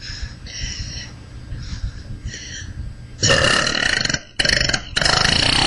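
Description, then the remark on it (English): A long, rattling burp from a 12-year-old girl grinds on for several seconds, starting as a low rumble and swelling into loud, harsh bursts with one brief break, like a riveting machine. “Wait, this is an awesome burp.”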